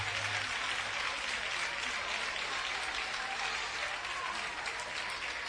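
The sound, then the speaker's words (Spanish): An audience applauds steadily at a gift presentation as a shirt of former Sevilla goalkeeper Sergio Rico is handed out: a dense, continuous patter of many hands clapping at an even level for the whole stretch, with no voices standing out. “Un fuerte aplauso.”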